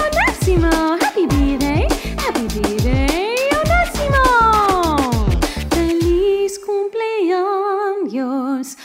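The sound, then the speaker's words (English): A voice imitates a dog's howl with long, rising and falling wails over a steady, punchy musical beat. The howls repeat loudly, sliding up and down in pitch. “My dog says, ah-woo!”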